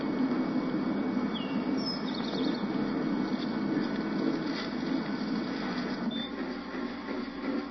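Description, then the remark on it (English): A bird calls with a few brief, faint chirps, spaced apart, in the grounds at the front of a building, over a steady outdoor rumble of wind or machinery. No one speaks. “Did you hear that? Yeah, the bird.”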